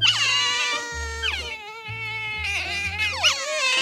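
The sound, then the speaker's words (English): Pet otters call in loud, shrill squeals that run almost nonstop, rising and falling in pitch with a whiny, cat-like tone, briefly dipping then surging again. “These are the calls of pet otters.”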